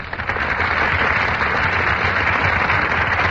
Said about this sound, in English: That burst of applause, ladies and gentlemen, is for Brian Ahern and Joan Fontaine, who are just entering our Gulf Theater stage.